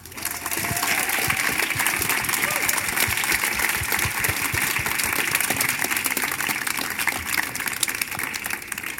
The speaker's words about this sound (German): Klatscht ihn hier vorne mit einem 10-Punkt-Applaus ans Mikrofon.